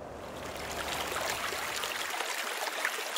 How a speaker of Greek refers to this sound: Το ποτάμι παλεύει με τα βράχια.